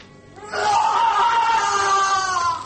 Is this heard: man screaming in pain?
yes